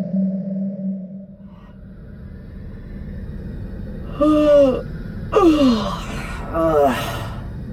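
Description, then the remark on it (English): A woman gives a big, drawn-out yawn inside a spacesuit: three breathy, falling moans in quick succession after a quiet low hum, with no talking. “Emery's prodigious yawn went unremarked by the rest of the universe.”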